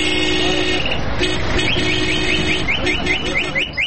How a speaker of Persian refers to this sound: اما بیرون از پارک همان سر و صدا و همان هارن موترها.